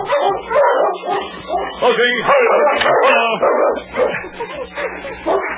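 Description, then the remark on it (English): A dog barks loudly and frantically while running into the woods and back, a rapid, nearly continuous run of excited barks mixed with sharp yips and whines. “Blackie, running into the woods and then back toward the sergeant, barked furiously”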